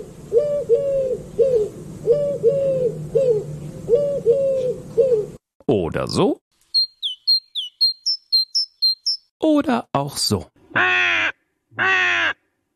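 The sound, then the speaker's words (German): A sequence of distinct bird songs played as examples in a radio news report: repeated hoarse cawing, then a rapid series of thin high chirps, then loud harsh squawks, with a man's voice briefly speaking between the sounds. “Vögel haben ja die unterschiedlichsten Gesänge. Manche klingen so.”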